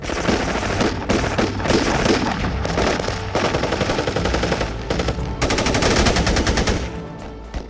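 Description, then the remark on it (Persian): Sustained, loud machine gun fire rattles in rapid bursts throughout as a Ba'athist combat patrol fires at night, with heavier blasts of RPG rounds exploding now and then; no one speaks. “از ترسشون مثل بارون روی سر ما آتیش ریختن. گلوله های RPG پشت سر هم کنار ما منفجر می شدن.”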